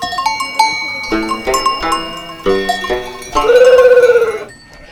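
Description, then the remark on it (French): Livestock bells clank and jangle irregularly in a sheepfold, then a single loud, quavering ewe bleat rises near the end. “S'occuper de brebis, faire manger des brebis, c'était...”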